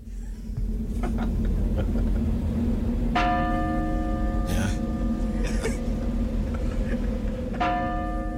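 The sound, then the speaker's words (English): A church bell tolls twice, several seconds apart, each strike leaving a long shimmering hum that rings out over a steady, rumbling background din. “He does bring his church bells into it.”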